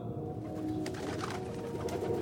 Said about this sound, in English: The pigeon made a cooing sound above me from the top step.